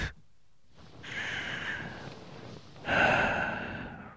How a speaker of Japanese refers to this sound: 寝るのもったいないけど、さすがに限界。あくび映った。